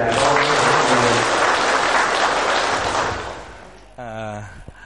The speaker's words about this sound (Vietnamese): Thì chúng ta chào nhau bằng một nụ cười và bằng một tràng vỗ tay luôn.